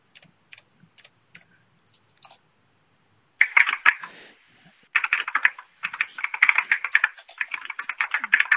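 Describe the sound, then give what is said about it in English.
Sparse, scattered key clicks give way to fast, dense computer keyboard typing from a meeting participant who has not muted, loud, in quick rhythmic bursts with a brief pause midway and no voices. “Would you see somebody please mute their keyboard?”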